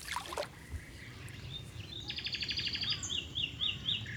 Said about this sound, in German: Schön, oder? Und dann diese Bäume überall, große Kopfweiden, Silberpappeln, Ulmen, Eichen und überall hört man Vögel.